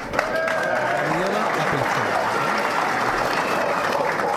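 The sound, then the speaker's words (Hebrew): A crowd claps steadily for several seconds to welcome a guest, a dense, sustained wash of applause with faint voices and cheers mixed into the noise. “חברים, קבלו בהרבה הרבה מחיאות כפיים.”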